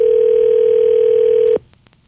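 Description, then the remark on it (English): A steady, loud telephone dial tone hums for about a second and a half as a call is placed to a contest winner, then cuts off abruptly, followed by a few faint clicks. “Let's try to get our winner on the phone.”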